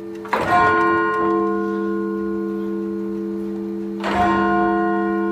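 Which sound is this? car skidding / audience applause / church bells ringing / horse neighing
church bells ringing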